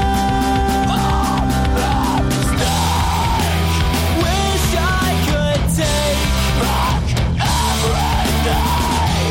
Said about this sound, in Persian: و البته یکی دیگه از این روش ها هم ادای آواز این موسیقی به شکل جیغ و داد یا فریاد بود، چیزی باز هم شبیه آواز همین آهنگی که حالا و زیر صدای من میشنوید.